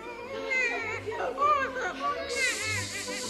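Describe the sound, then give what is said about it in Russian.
A lively group of children running into a yard, with overlapping excited shouts, squeals and chatter, steady and busy throughout, with a brighter rush of noise near the end. “две незнакомых девочки, два незнакомых мальчика, нянька с младенцем и мальчик с макаронами вбежали во двор.”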